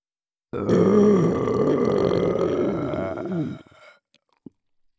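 A long, loud, drawn-out burp, rumbling for about three seconds in both ears before trailing off, followed by a brief soft click in the quiet.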